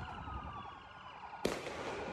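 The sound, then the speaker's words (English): A wailing siren fills the scene until a sudden, sharp blast from a rocket firecracker fired at police cracks out, followed by a wash of crackling, hissing noise. “One of these rocket/firecrackers lands right on the hood of a cop car.”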